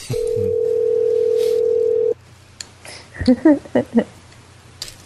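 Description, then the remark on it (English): A telephone ringback tone on an outgoing call to Regal Entertainment Group, Stadium 11 sounds once as a steady, clear two-second buzz, then stops; a few seconds of a person talking follow over a faint low hum. “Come on, hello, answer.”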